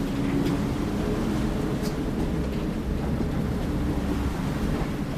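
Rough sea churning around a sailing boat crossing to the small island of Grímsey, the northernmost point of Iceland, a steady, dense wash of waves and rushing water, with blustery wind buffeting the microphone throughout and no voices.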